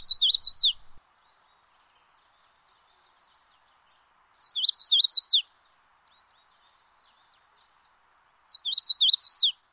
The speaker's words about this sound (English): That's the Magnolia warbler, which you might have seen here in New England, although it spends its winters in the Caribbean.